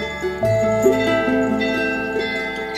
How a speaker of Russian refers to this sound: Все 3 связаны как бы в одну группу, чтобы я одной рукой мог бы звонить во все 3 определенным движением руки. Вот так. Зазвонные, они дают трель, дают такой как бы льющийся звук, как ручеек.